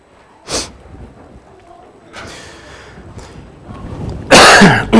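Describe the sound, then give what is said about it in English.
A sharp cough near the start, followed by a few softer throat-clearing rasps, then a loud, harsh burst of coughing at the end, from a preacher getting over a cold. “Oh, forgive me for coughing.”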